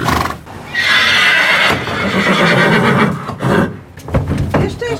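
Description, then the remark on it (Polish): An agitated loose horse on a street snorts and whinnies loudly, a long breathy, rasping call lasting a few seconds, followed by softer huffs and a few faint hoof clops. “Przechodząc już przez bramę wejściową, schodząc na chodnik, usłyszałam parsknięcie konia.”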